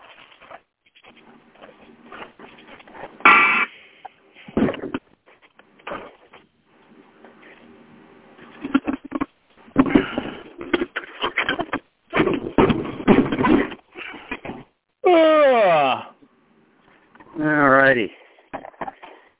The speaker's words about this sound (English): So the strange noises you people are hearing in the background is me breaking out my tools so I can install a fan in my camper.